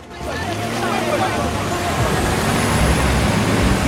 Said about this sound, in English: Then the small convoy of expensive dark saloons pulls away.